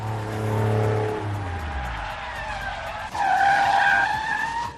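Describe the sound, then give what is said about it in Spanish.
A car skids hard, its engine tone dropping before a loud, sustained tire screech takes over near the end. It lasts a few seconds, and no one speaks. “Frenazo en seco.”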